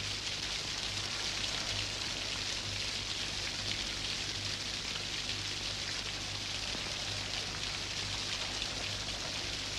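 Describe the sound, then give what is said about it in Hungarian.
Steady rain hisses continuously, a dense even wash of patter with no pauses, over a faint low hum. Nobody speaks. “Az eső kihozza a reumámat.”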